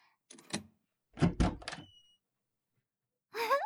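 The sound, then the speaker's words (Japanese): A door is unlatched and opened for an awaited visitor: a few sharp mechanical clicks and a heavier clunk, a thin squeak, then a short rising creak of the door swinging. “ドア開けますね。”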